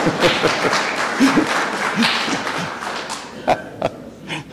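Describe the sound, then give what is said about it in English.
A round of applause for a scripture reading: dense, steady clapping from a group that gradually thins out, ending with a few isolated, sharper claps. “I think that she deserves a round of applause for that reading.”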